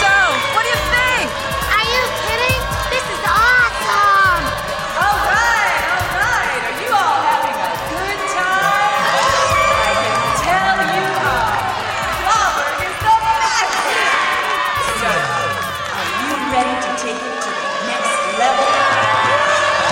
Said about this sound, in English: They were in the front row of a huge crowd, all yelling and cheering and dancing.